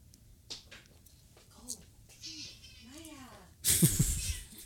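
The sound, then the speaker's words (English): A female cat on a table meows several times in short, rising-and-falling calls, with muffled talking in the background and a loud rustling burst at the end. “yeah, she's not a quiet cat.”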